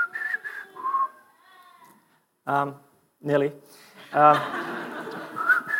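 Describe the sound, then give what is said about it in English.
A person whistles a brief few-note resistance tune, somewhat thin and unsteady, followed by voices talking and laughing, with another short whistled note near the end. “And any time somebody does this little whistle, do you remember how the whistle went?”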